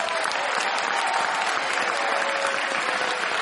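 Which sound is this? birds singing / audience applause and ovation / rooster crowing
audience applause and ovation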